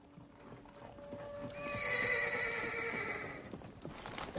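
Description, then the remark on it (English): A horse whinnies loudly in a long, wavering neigh while hooves clop and shuffle underneath as a rider strides back to the horse and mounts, with scattered clattering steps continuing after the call fades. No one speaks. “Ariane, on her knees, glances up at the scowling Atane, who sheathes her blade and strides back to her horse. Once mounted, she takes her spear from Aeron next to her.”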